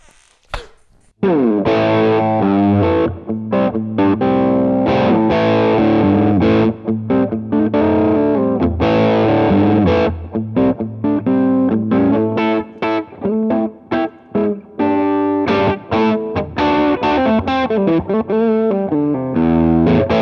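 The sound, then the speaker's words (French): Overdriven electric guitar, its overdrive pedal set to elephant mode, with a soft, muffled grain, playing loud chords and riffs over a sustained low note for about nineteen seconds, with brief choppy breaks and no voices. “J'ai toujours rêvé de dire que je mets l'overdrive sur le mode éléphant.”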